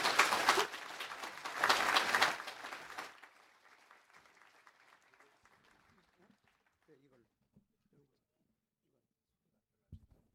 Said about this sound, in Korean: 여러분들 목사님 사랑합니다 환영합니다 하는 마음으로 더 힘차게 한번 박수로 환영했으면 좋겠습니다.